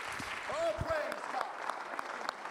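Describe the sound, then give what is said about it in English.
An audience at a worship service claps steadily in a dense, continuous patter, while a voice cries out with a rising, drawn-out exclamation partway through. “Oh, clap your hands unto him and bless his name.”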